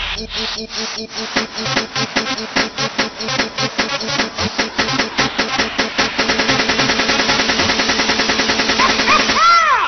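Rapid bursts of cannon fire rattle close and loud in a steady stream, the shots quickening into a dense, continuous roll toward the end, with no voices.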